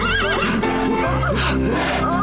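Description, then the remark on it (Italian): A horse, given to an elderly woman to care for, whinnies: a loud, wavering neigh that rises and falls in pitch for about two seconds, with breathy snorting mixed in. “Siamo riusciti anche noi a ottenere un audio o il momento in cui la signora anziana ha avuto in dono questo cavallo da accudire.”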